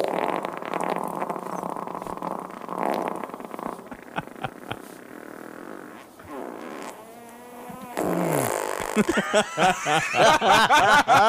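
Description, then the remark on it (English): A long, sputtering recorded fart echoing in a bathroom, breaking into several loud bursts and squeaks toward the end, with no talking. “I was just trying to play these farts.”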